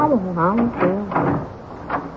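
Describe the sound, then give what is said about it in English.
A door creaks open as Ulysses arrives, with a drawn-out, wavering hinge squeal that bends up and down in pitch, followed by a couple of softer creaks. “Mind out, I think I hear Ulysses coming to the door.”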